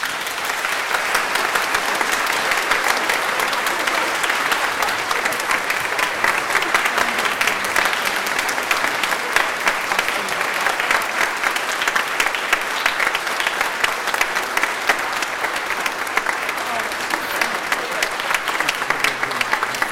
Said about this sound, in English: I think this group deserves a wonderful hand of applause.